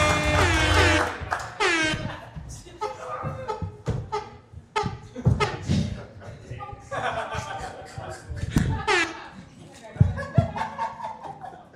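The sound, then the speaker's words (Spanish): A loud horn blares at the start, then sounds again in short repeated blasts, cutting through a lively mix of voices, chatter and laughter. “A mí no me molesta la interrupción repetida de la bocina.”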